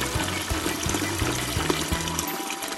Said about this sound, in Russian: Пэтсон налил в ведро теплой воды и добавил в нее мыло.